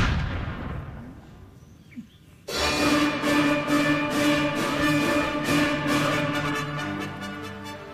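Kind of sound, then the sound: sound effect, cannon firing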